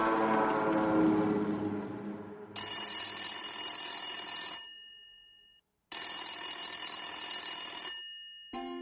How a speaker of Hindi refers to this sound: तुम्हारा फोन बजते ही ना हमने भेज दिया छोटू को अम्मा को बुलाने